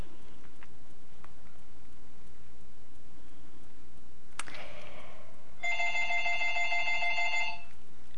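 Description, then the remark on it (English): A telephone rings at home with a rapid, warbling trill lasting about two seconds, preceded by a brief click and faint room noise. The ring is clear, with no one speaking. “Excuse me, I'm having to tape this at home because I missed last week and my phone keeps ringing.”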